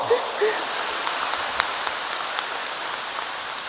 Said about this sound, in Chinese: 鼓掌。